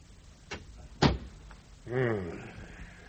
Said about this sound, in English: You'd better shut that door and sit down.